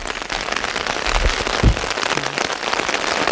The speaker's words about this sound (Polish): Ciągle mało, no w lesie nigdy deszczu za dużo, chociaż tutaj mamy takie tereny troszeczkę bardziej podmokłe, ale w tym roku i w ubiegłym była taka susza, że tego deszczu może dosłownie tydzień padać i jeszcze nie za wiele będzie w lesie.